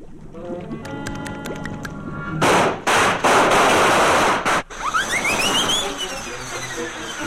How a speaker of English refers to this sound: Oh, one thing. This potion explodes.